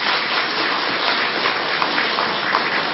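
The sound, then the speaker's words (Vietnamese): A crowd of Buddhist followers applauds steadily, a dense, even wash of many hands clapping that holds at a strong, constant level for the full three seconds, with no voices over it. “Các chàng vỗ tay giòn giả cho thấy một tín hiệu đáng mừng là các quý Phật tử sẽ ủng hộ nó.”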